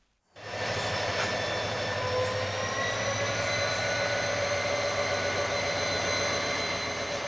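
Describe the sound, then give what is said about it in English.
An intercity train passes through the wreckage of a crashed train at Eseka, Cameroon, rumbling loudly and steadily after a quick fade-in, with a deep engine drone and high whining metallic tones sustained throughout, no voices. “An intercity train meanders through the wreckage of a sister train that crashed here at Eseka.”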